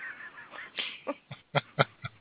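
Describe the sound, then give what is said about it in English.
A neighbor's chickens cluck in a quick, uneven series of short, sharp bursts, moderately loud, with no one talking over them. “You can hear them clucking away.”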